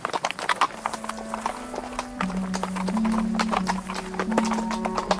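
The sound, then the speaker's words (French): Hooves clip-clop steadily, a quick irregular patter of several horses being held back on a steep, winding downhill path, on hard ground, with a low sustained hum running underneath throughout. “Pendant près d'une lieue, ils se fatiguèrent à retenir les chevaux sur un sentier qui serpentait en pente raide, sous des hêtres énormes.”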